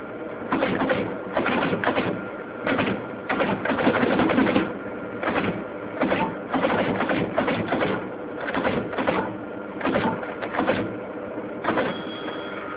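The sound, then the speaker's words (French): A teletype machine, made up of keyboard, printer, paper-tape punch and paper-tape reader, prints in busy mechanical bursts, a rapid clattering chatter of striking keys with brief pauses between runs, fairly loud throughout. “Un télétype est composé de quatre parties distinctes: le clavier, l'imprimante, le perforateur de bande et le lecteur de bande papier.”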